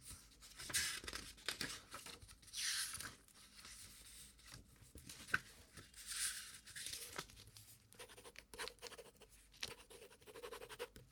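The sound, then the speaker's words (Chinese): Quick scratchy strokes of a pen on paper as someone writes a police statement record, coming in short bursts and pauses, fairly quiet, with faint shuffling of paper in between and no talking. “我得写个笔录啊。”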